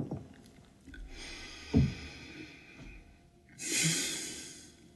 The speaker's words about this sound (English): Okay, sip of water. Okay, and that breath.